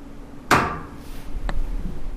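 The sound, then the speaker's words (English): A dining room radiator in a three-story house in Maplewood, New Jersey, knocks as the heat comes on after the thermostat is turned up: one sharp, ringing metallic clank that decays slowly, then a much fainter tap a second later, over quiet hum with no voices. “Pruzan turned his thermostat up, and we pulled chairs up to his dining room radiator and lay in wait.”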